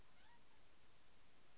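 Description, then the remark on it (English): A pet cat named Spud gives a single short, faint meow, rising briefly near the start before fading into a steady background hiss; no one speaks. “Look at the kitty cat.”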